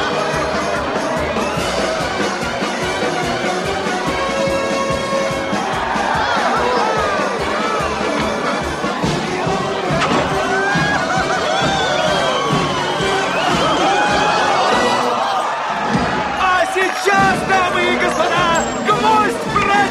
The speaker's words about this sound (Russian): В этот миг толпа ликует и ревет.